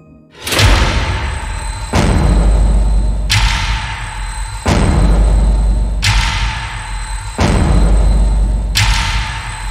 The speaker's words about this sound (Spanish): Pero poco después de eso, una fuerte explosión atraviesa el centro comercial y rompe las ventanas de vidrio. Todos se agachan para cubrirse.